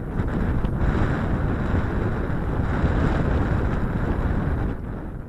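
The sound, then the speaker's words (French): Strong wind on a hot summer afternoon in Apulia, southern Italy, blows against a shack made of cardboard and plastic in a steady, rumbling roar, buffeting the microphone, then eases slightly just before the end. No one speaks. “Un après-midi d'été, le soleil cogne fort, le vent souffle contre une misérable cabane faite de carton et de plastique.”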